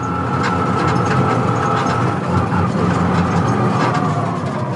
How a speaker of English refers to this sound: The ride today is one of its own, having ridden on an electric vehicle. It's just cool. No noises like the combustion engines. There are no smells like the combustion engine.